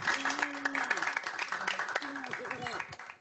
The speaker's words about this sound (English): Well, let's all give a round of applause to our awesome panel. Let's give it up.